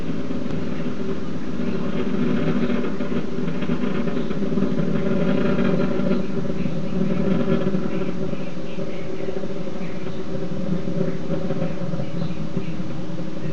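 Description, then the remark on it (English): A steady, powerful roar of the Space Shuttle Endeavour's three main engines during ascent, about one minute into flight, throttling down through maximum dynamic pressure in the lower atmosphere. A dense, low, heavy thunder with a crackling edge stays loud and even throughout, with no voices. “Three engines now throttling down as Endeavor passes through the area of maximum dynamic pressure on the vehicle in the lower atmosphere, approaching 1 minute into the flight.”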